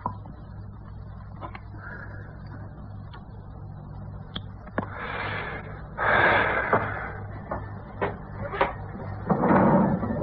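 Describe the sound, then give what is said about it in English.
A drawer slides open and shut, with a few sharp wooden clicks and knocks and two longer scraping rustles, over a steady low hum in otherwise quiet surroundings, as something wrapped in white cloth is taken out of it. “From a drawer, he took out something wrapped in white cloth.”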